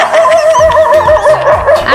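Several hungry dogs bark and yelp in a high, whiny chorus, their overlapping cries wavering continuously for two seconds, loud, with no one talking.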